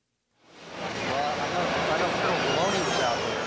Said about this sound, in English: It's 1996, and a large jet touches down at night in Guam.